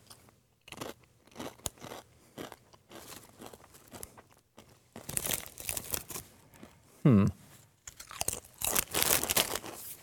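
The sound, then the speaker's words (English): Loud crunching of Blazin' Buffalo Ranch Doritos tortilla chips being chewed, in irregular rapid bursts that grow denser toward the end, with a brief voiced murmur partway through. “Sorry for crunching into your ears, by the way.”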